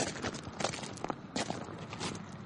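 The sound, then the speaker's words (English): Several men's footsteps crunch along at an irregular pace as they walk on foot toward a ranch house, leaving their horses behind; moderately loud, with no one speaking. “Leave the horses here. Head for the ranch house on foot.”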